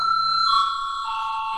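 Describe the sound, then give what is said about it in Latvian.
A parliamentary voting bell, rung before a vote on debate time in the second extraordinary sitting of 16 April 2020, sounds as one steady, high electronic tone that holds unbroken for over a second, with a slight shift in pitch midway and no voices over it. “Lūdzu zvanu.”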